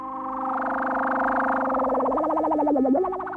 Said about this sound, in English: In the mid-1960s, … was one of the first people to master the Moog synthesizer, an electronic machine that could make a whole new world of sound by generating lots of different tones and bending them into never-before-heard shapes.